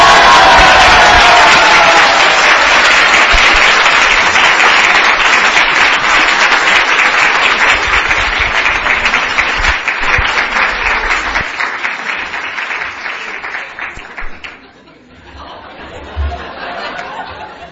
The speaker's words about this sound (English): Please applaud to His Holiness Radhanath Maharaj.